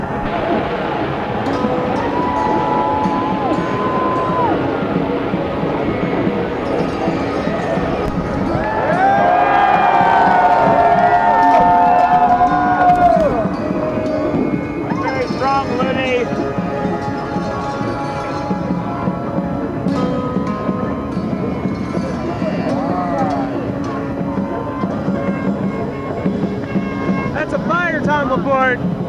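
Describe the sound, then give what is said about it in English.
A large crowd watching a big, very bright bonfire cheers and shouts excitedly in a sustained roar, with individual whoops and voices rising above the din, swelling loudest midway before settling into a steady, lively hubbub. “The crowd is going nuts.”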